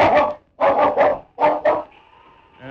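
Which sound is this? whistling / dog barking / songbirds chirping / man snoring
dog barking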